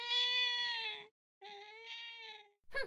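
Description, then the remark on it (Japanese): A stray cat meows twice, each cry long, drawn-out and clear, separated by a short pause, with the sharp start of another sound cut off at the very end. “お前どこから来たんだ、野良猫か。”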